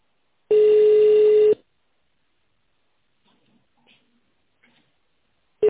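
A telephone ringback tone on a call to the company Ekrosibir, after the automated prompt to dial an employee's extension or wait for the secretary: one steady, loud electronic beep lasting about a second, followed by near silence with faint ticks, then the tone beginning again at the end.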